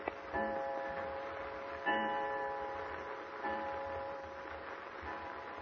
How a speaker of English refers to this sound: Well, what time is it now? The clock is just about to strike 7.